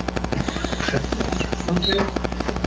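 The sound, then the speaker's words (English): A mobile phone vibrates with a steady, rapid rattling buzz that continues for the whole moment, built from fast regular pulses over a low hum. “My phone's starting to shake.”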